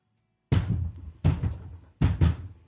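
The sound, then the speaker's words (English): The door of a box smacks open and shut as someone enters the box, heard as three loud double thuds with a rattling shudder after each, spaced evenly apart, with no voices. “with a smack and a shudder, the door opens and closes as Murina enters the box”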